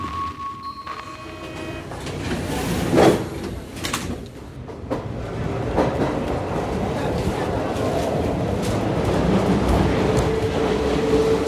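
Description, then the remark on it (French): A Paris metro train on Line 3 in Paris, France, running, heard from inside: a brief tone and a couple of loud clunks early on, then a steady rumbling roar of the moving carriage with faint background voices. “Bon, voilà sur la ligne 3 du métro parisien, une ligne qui traverse Paris du nord-ouest à l'est, plein est.”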